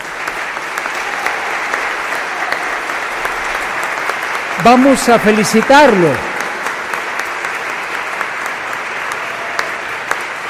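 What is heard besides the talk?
audience applause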